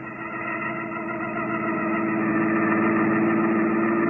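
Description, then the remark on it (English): A car engine idles steadily as the car is taken out of a garage, a continuous low rumble with a droning hum that holds even and slightly builds over a few seconds, with no voices. “I had my car out of the garage.”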